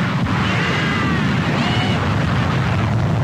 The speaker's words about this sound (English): Maybe I'll just take it by about 30 feet off the deck at Mach 2. Hey, y'all, you want to hear some noise? How about a sonic boom to go with your breakfast? Here we are!